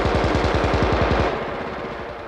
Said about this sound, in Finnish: Tuli hiljeni. Nyt vasta he huomasivat senkin, että heitä oli kylästä ammuttu koko ajan.